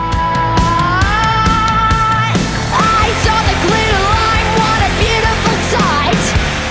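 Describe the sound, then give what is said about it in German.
A loud, dense metal song with pounding drums and distorted guitars, a female singer's strained, screamed vocal line riding on top and wavering through the heavy mix. “wer das nicht macht, den schreit Sängerin … an, dies doch bitte gefälligst zu tun”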